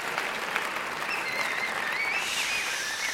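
Steady, dense applause from a jazz concert audience, a continuous wash of clapping at even loudness throughout, with a few faint whistles rising above it and no one speaking.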